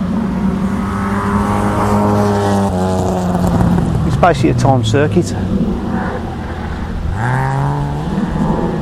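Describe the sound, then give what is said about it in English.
An MG Midget sports car's engine drones steadily as it laps the course at an MG car club sprint, on an oval track with a chicane at a former airfield, doing a timed lap, its pitch dipping then climbing again as it accelerates, loud, with a man talking over it. “So I'm just watching a little MG midget come around the course.”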